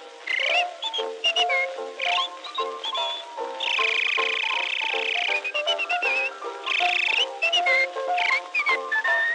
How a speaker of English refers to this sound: She never stops a minute, but she keeps right at it, and this is what she whistles all the day.